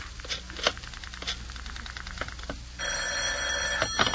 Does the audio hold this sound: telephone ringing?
yes